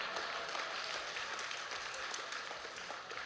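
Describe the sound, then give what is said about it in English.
A church audience claps steadily, a dense crackle of many hands sustained at an even level for a few seconds with no pause. “The presence, you either clap or you don't.”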